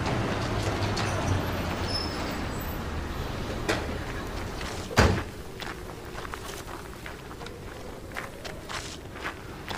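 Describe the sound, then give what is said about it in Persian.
Two cars carrying several people rumble and idle as they pull up, then a single sharp thud like a car door shutting cuts through midway as one person gets out, followed by faint shuffling steps approaching over steady outdoor noise. “دو تا ماشین با تعدادی سرنشین سمت محب و نعیم میان. یه نفر پیاده میشه و سمتشون میاد”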